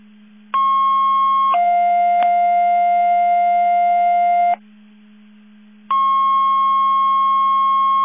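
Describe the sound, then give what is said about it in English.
Loud, steady electronic alerting tones over a radio channel, sent as a test of the box alarm alerting receivers for McHenry County Division 5: a high tone shifts to a lower one for several seconds, breaks off briefly, then the high tone returns and holds, with a constant low hum underneath. “CCOM testing Mavis Division 5, box alarm alerting receivers, test 12345.”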